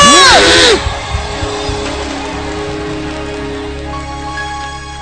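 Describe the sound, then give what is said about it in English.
A church audience bursts into loud screams and cheering at the preacher's call during a sermon, with sharp high-pitched shrieks at first, then a sustained crowd roar continuing over steady background music. “Somebody scream.”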